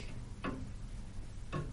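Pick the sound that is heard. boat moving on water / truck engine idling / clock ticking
clock ticking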